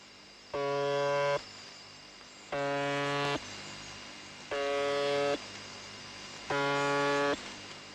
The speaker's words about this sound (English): Most monitors seem sure that the number stations are a part of international espionage, but some signals remain elusive. There are a few strange stations, I must admit, like the buzzer on 4625 kilohertz.